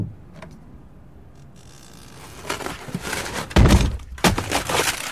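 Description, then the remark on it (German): The door of a costume rental shop is smashed in by Benjamin Blümchen, an elephant: after a quiet start, a burst of crashing, splintering impacts with a loud central bang and clattering debris, no voices. “Herr Blümchen, Sie haben meine teure Tür ruiniert.”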